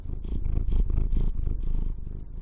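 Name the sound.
cat purring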